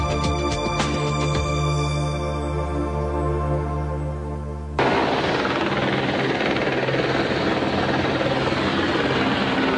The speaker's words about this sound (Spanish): Se puede practicar desde el golf al parapente, dormitar en una tranquila tarde de sol en una cala, disfrutar de las emociones del windsurf o dar un paseo en helicóptero.